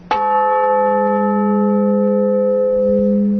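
A single strike of a 200 kg church bell tuned to C-sharp rings out loudly, then sustains a steady, low humming tone with bright overtones that barely fades over several seconds, with no voices.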